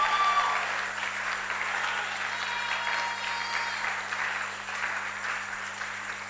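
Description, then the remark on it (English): A church audience claps and shouts to God's glory during a service, clapping steadily and densely for several seconds, a continuous wash of hands with a faint murmur of voices mixed in and no clear speech. “And if I have a witness in this house, then let all the saints shout and clap to God's glory.”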